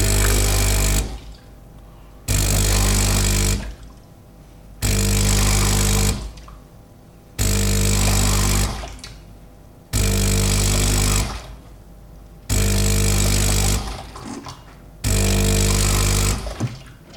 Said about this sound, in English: and grab my cup, and come over to the machine, turn the frother rotor around to clean, which is right round to the right, so it clicks.